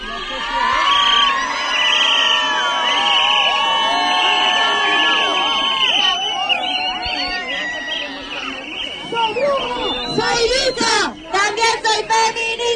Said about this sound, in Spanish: Y vamos a gritar muy fuerte, vamos a hacer mucho ruido porque estamos de las feministas en la calle hoy. ¡Hace ruido, grita, grita!